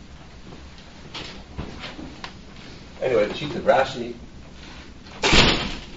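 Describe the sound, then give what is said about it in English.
A desk drawer slides open and bumps shut near the end, a short wooden scrape and thud, while a man keeps talking over a quiet room. “The drawer like this drawer, you know, that's under this little more.”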